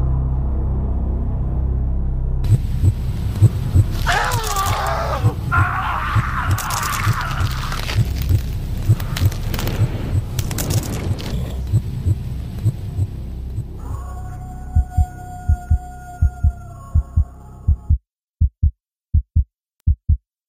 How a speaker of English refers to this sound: My heart beat loudly. I swear he could hear it.